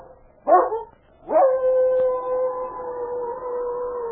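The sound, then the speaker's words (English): A dog gives a short yelp, then launches into a long, sustained wailing howl that holds steady for several seconds, clear, with no talking. “An instinctive fear moved through her body, and she raised her head to give forth a long, wailing howl.”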